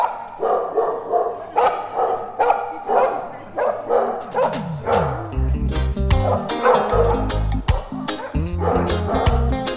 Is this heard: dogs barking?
yes